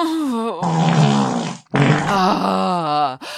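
A person grunts and groans while straining to push out farts, in two long, loud, voiced bursts with a short break between them. No words are spoken.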